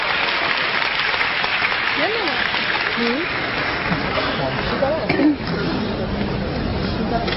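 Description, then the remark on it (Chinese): Sustained applause from a large audience welcoming the performers of the xiangsheng (crosstalk) piece Pi Liaozhai, a dense continuous wash of clapping with a few voices calling out faintly beneath it. “接下来请您欣赏相声《批聊斋》，表演者徐德亮、王文林，掌声有请。”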